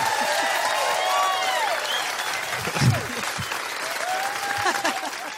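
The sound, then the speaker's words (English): A large live audience at a live show at Underbelly applauds steadily for several seconds, a dense wash of many hands clapping, with scattered cheers and whoops rising above it. “Will you do a round of applause?”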